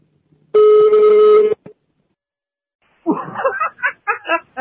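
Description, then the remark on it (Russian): A single loud, buzzy telephone ring lasting about a second, followed after a short pause by someone laughing. “Кто сейчас звонит? Вы звоните или вам звонят?”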